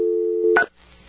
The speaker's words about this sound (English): Dial tone. And touch tone.